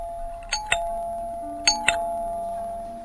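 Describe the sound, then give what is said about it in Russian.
A doorbell at the door of a small apartment is rung insistently twice in quick succession, each press giving a bright two-note chime whose tone keeps ringing underneath. No one speaks. “Дети еще спали, когда в дверь настойчиво позвонили.”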